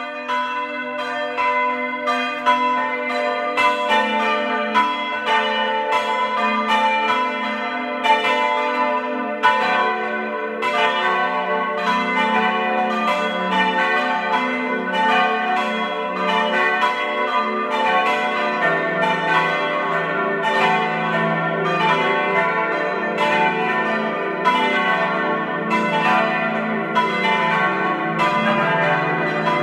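Several bells of the Baroque-era parish church of Saints Ulrich and Jakobus in Obertilliach, East Tyrol, ring together at 12 noon in a full, continuous peal. Their strokes overlap in a dense, steady rhythm with a long shimmering resonance, loud throughout, with no voices.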